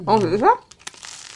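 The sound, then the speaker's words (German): A short voiced hum gives way to a run of dry, crackly crunches, irregular brittle snaps like someone biting into crusty bread rolls at a French-style breakfast, fading into faint crinkling. “So, jetzt probieren wir das mal. Knuspern wir euch mal ein bisschen was vor.”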